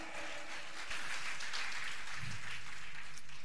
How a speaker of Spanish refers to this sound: Demos fuerte aplauso a ese Cristo. Aleluya. Aleluya.